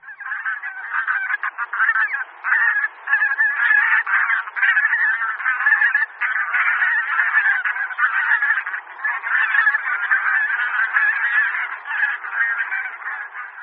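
A large flock of bean geese (Anser fabalis) calling continuously, a dense overlapping chorus of nasal honks and cackles that stays loud and steady throughout, with no talking.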